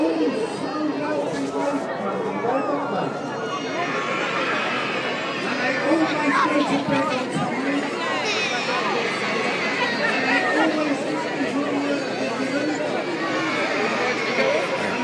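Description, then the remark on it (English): A dense, steady babble of many voices from a large crowd gathered in a town square for a local Christmas lights switch-on. It is continuous and fairly loud throughout, with overlapping conversations and no single voice standing out. “Crowds of people everywhere.”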